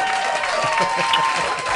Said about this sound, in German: Super, hier kommt dein Applaus.